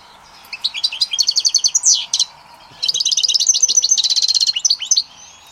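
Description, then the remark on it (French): A caged songbird sings in two bright bursts of rapid, trilling high notes separated by a short pause, soft, clear and melodious with no voices around. “Son chant est doux et mélodieux.”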